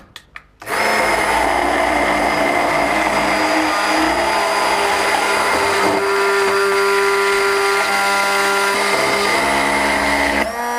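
A handheld immersion blender whirs loudly and steadily for about ten seconds while making mayonnaise, its motor pitch shifting slightly as it churns the thick mixture, starting after a couple of soft clicks.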